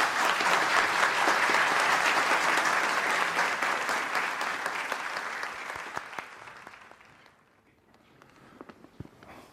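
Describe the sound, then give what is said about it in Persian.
A crowd applauds a veteran from the years of combat and defense who is invited to speak: loud, steady clapping in a dense wash that gradually thins out, ending with a few scattered, isolated claps. “تشویقشون بفرماییم.”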